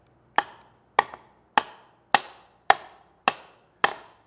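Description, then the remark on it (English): Seven sharp hammer blows drive a hammer head onto its handle at a steady, even pace, each a ringing knock that dies away quickly, with no voices over them. “is that this hammer blow is tending to pull the head further and further on instead of pulling it further and further off if I was simply tapping on the wedge.”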